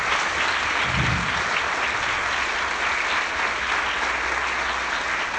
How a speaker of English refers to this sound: Let's give him a warm round of applause here.